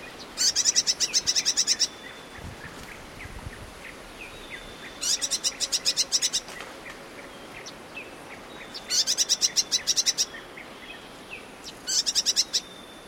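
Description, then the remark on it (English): Four bursts of rapid, high-pitched chattering calls from an eastern double-collared sunbird foraging among acanthus flowers in Kenya, each lasting about a second, clear over a soft outdoor background with occasional faint chirps between. “And last but not least, we have the calls of an eastern double-collared sunbird.”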